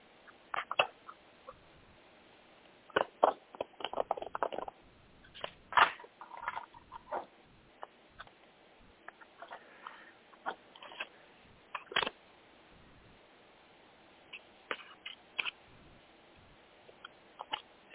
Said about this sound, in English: Okay. One second while I shuffle the cards.